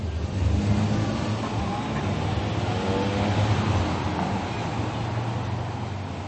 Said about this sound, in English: Another busy day in the heart of Toronto. Traffic passes quickly through the popular Annex District at the corner of Bloor Street and St. George, a corner which is home to the Bata Shoe Museum.